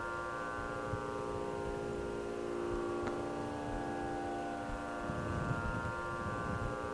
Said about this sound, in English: The sound of a bell.